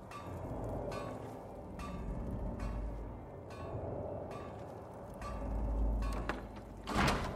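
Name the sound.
door being closed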